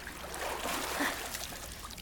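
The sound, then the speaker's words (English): Water trickles and splashes steadily as someone climbs out of an indoor pool, a busy spattering of drips and sloshing that holds at a fairly even level for a couple of seconds, with no voices. “Here, grab my hand and help me out of the water.”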